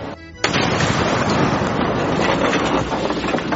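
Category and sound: sound effect, bomb explosion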